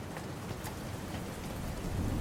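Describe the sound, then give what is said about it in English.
Steady rain with scattered sharp raindrop clicks tapping against a window, continuous over a soft low rumble, with no voices. “All that was left was the sound of the raindrops clicking against the window.”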